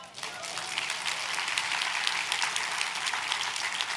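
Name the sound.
audience clapping hands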